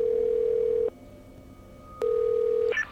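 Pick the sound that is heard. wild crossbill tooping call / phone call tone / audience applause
phone call tone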